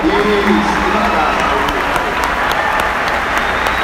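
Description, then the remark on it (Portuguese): An audience claps steadily, a dense, continuous wash of hand claps filling the whole clip at a fairly loud, even level, with faint voices murmuring underneath. “Pode aplaudir, gente, eu espero.”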